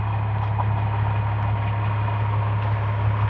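A heavy diesel engine idles steadily, a constant low rumble with a throbbing drone and no pauses, from a dump truck at a road work site.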